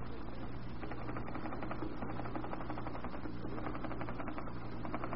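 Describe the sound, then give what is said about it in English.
Rapid, steady typewriter clatter runs without pause for about five seconds as a secretary demonstrates fast typing, dense keystrokes over a low constant hum and no voices. “There, you see? I'm rapid on the machine also.”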